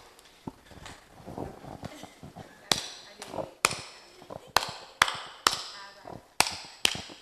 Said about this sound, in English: That's how he was clapping. I think, wow. So if this guy grows like that, say, why are you clapping rough?